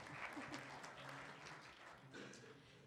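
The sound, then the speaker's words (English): An audience applauds Pat Wolf, Elections Administrator in the Ohio Secretary of State's office, as he is introduced: a room full of people clapping steadily for a few seconds, a dense, even patter of many hands at moderate volume without letting up. “Go ahead, clap for him.”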